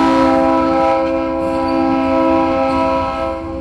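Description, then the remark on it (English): A freight train arriving in Tenosique blares its horn in one long, steady, loud blast that holds for several seconds, with a low rumble of the train underneath and no voices. “After 3 days, the freight train arrives in Tenosique.”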